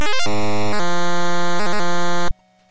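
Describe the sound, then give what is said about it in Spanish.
A retro video game's synthesized Tarzan-style yell, heard when the character swings from a vine: a loud, buzzy electronic warble that leaps up and down in pitch, holds a long steady tone with a few quick wobbles, then cuts off abruptly. “Cuando el personaje se colgaba de una liana se podía oír un grito parecido a Tarzán, aunque os dejo el sonido, juzgad vosotros mismos.”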